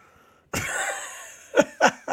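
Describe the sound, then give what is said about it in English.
A harsh cough from a person who is ill breaks the silence and rasps on briefly, followed by three short, sharp coughs in quick succession. No one speaks. “I'm going to let you guys know I have a dose of some sort of a plague at the moment. And I might cough at any minute.”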